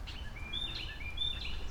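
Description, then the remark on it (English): Birds call in short, bright chirps and whistles at a billabong, repeating several times over a steady low outdoor rumble, fairly clear. “I can hear bullfrogs. And I can hear wacky birds.”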